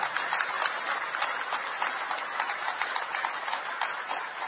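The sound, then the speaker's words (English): Sustained applause from a large crowd at a Chetichand gathering, welcoming a delegation of Japanese devotees from Japan: a dense steady patter of many hands clapping at once, fairly loud and continuous throughout with no voices standing out. “and a big round of applause for all the Japanese devotees who are here from Japan.”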